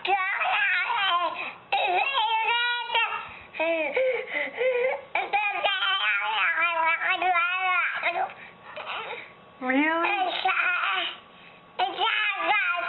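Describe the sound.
A baby babbles and coos, stringing together pitch-sliding syllables as if trying to talk, with a few giggly bursts and brief pauses between phrases.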